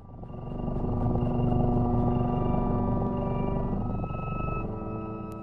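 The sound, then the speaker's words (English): Music made for cats plays steadily, with low, purr-like rumbling tones beneath sustained higher pitches that slide and glide around, plus a few soft repeated high blips early on. “There's lower, almost purring noises mixed with higher frequency pitches, and they're all sort of like sliding around.”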